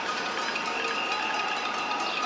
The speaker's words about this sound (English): I took a video the other day, and here, I'll play it for you. Everyone's cheering at 7 o'clock in New York. Everyone's cheering for the healthcare workers and essential workers.